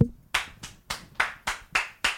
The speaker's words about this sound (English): You can clap too?